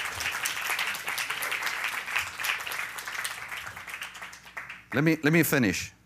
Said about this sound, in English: Did you give my team a good hand clap? Thank you.